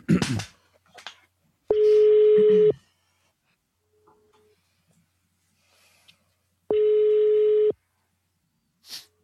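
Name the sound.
telephone ringback tone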